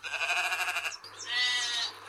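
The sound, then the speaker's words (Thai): Two loud sheep bleats in quick succession: a wavering, quavering baa followed by a slightly higher, drawn-out second call, with no other sounds around them. “แต่ว่าสัตว์ที่เกิดจากการโคลนนิ่งที่มีชื่อเสียงโด่งดังและเป็นที่รู้จักไปทั่วโลกไม่ใช่กบค่ะแต่ว่าเป็นแกะที่มีชื่อว่าดอลลี”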